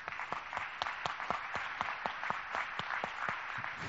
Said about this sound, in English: And so, men, fathers, I just want to applaud you and honor you for that. Can we give all the men a hand for that?